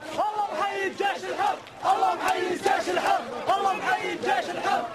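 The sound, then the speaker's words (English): A large crowd of protesters in Homs, Syria, chants "God salute the free army" in unison, voices rising and falling in a steady repeated rhythm, loud and sustained throughout with no pause. “In an unverified YouTube video, crowds in that city chanted, quote, "God salute the free army."”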